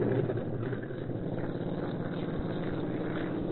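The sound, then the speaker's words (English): A steady, loud airplane engine drones and hums throughout, a thick low rumble holding at a constant level as it runs up before takeoff, with no voices present. “Looks like they're getting ready to take off.”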